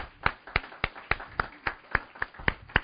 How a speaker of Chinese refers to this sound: 想不想我们以后常常有这样的诗班在我们当中献诗？想不想？给他们鼓掌，鼓励一下他们。